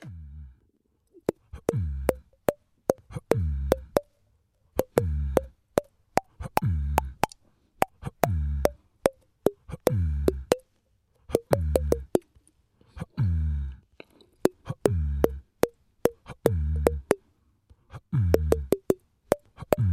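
A tune played by tapping on a cheek: a steady run of hollow, pitched plops with changing tones, close and clear, continuing in rhythmic phrases with short pauses and no talking.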